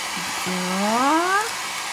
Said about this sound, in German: also ich gebe nochmal so einen kleinen Hauch Föhn auf meine Kresse drauf